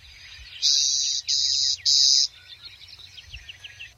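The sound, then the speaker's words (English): A clay-colored sparrow on the mixed-grass prairie of North Dakota gives three loud, flat insect-like buzzes in quick succession from a patch of western snowberry, each about half a second long, followed by fainter chirping birds in the background. “Take a walk across the mixed grass prairies of North Dakota during the spring and summer, and you're likely to hear a series of short buzzing sounds emanating from a patch of western snowberry or perhaps a thicket of some other shrubs.”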